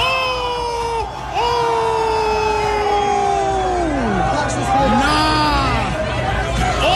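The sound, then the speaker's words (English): The crowd at Madison Square Garden in New York roars continuously as garbage is thrown on an Indiana Pacers fan, with long sustained swells of massed voices that rise and then slide downward in pitch several times, like collective oohs and jeers over steady crowd noise. “Every time the crowd reacts, it's a big, giant bag of garbage being thrown.”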